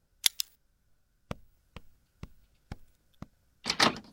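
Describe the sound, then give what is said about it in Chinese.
A couple of sharp clicks, then five steady, evenly spaced knocks on a door by a father asking to be let in, followed by a brief scraping rattle as the door is opened. No voices. “是我，开门。”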